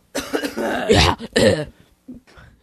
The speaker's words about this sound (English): You mock me coughing now. Yeah, I can't do. Even cough without being mocked.